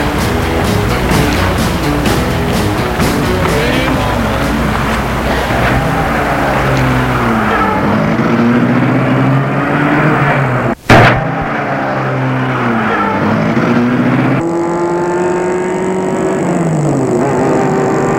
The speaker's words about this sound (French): Et il met la voiture en route.